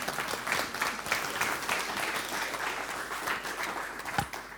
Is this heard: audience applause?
yes